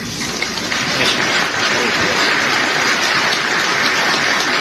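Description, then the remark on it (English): A crowd applauds steadily for several seconds, dense overlapping claps forming a continuous wash of sound at an even, fairly loud level, with no voices standing out. “Somebody didn't applaud.”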